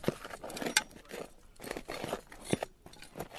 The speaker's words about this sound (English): Over in another part of the forest, a few students are scraping away at the dirt attached to the roots of an overturned tree.